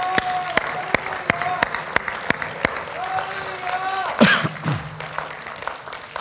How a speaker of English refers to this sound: Clap your hands. Would you do that in praise?